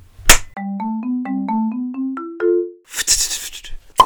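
A sharp hand clap introducing an animal-fact segment rings out, followed by a short electronic jingle of stepped, bright tones, then a brief rough burst of clapping noise and one more clap at the end.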